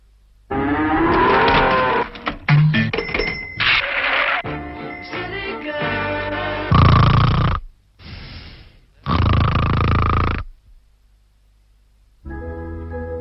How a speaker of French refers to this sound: Un masque répressif pour ne plus ronfler.